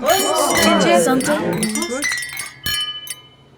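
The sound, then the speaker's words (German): Several voices chatter together, then glasses clink sharply a couple of times in a toast, each strike leaving a bright ringing tone that lingers as the talking fades. “Na dann, Prost alle Mann und alle Frau. Auf einen schönen Abend.”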